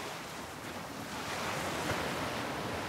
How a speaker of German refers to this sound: Du hörst das sanfte Rauschen der Wellen, während sie über den Strand und deine Füße sanft hinüberrollen. Und du siehst so, wie sie sich langsam wieder zurückziehen in das Meer.